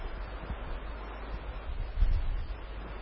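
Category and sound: nature, rain falling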